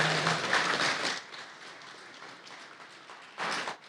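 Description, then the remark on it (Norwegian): A burst of audience applause, loud for about a second, then fading to a softer patter before a brief swell of clapping near the end. No voices are heard. “Ja, applaus for det.”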